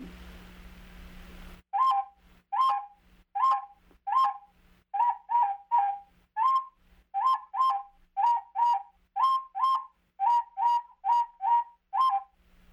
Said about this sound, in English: Another bird that was yellow and white, and it had a song, and it sounded like this.